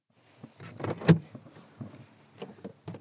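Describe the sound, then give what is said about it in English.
A car door creaks and thuds shut, followed by a few soft shuffling footsteps and faint rustling as someone gets out of their car on arriving at an eco-community festival in Underhill. “As soon as I get out of my car, a man with a big beard walks my way.”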